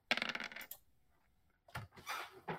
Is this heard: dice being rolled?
yes